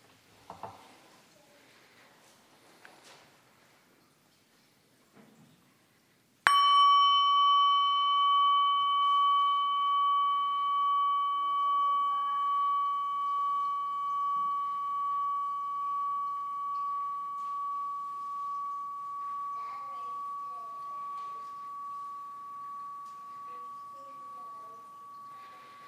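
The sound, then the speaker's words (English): A bell is struck once, ringing out loud and clear with a long, slowly fading tone that wavers and pulses as it decays. Only faint, quiet sounds come before it. “The bell vibrates, the air between it and our ears vibrate, our tympanic membranes vibrate, and we hear the sound of the bell.”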